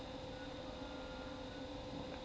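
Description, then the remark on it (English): A steady, low mechanical rumble of a train going by, holding an even level with a faint hum through the whole stretch and no voices. “Train.”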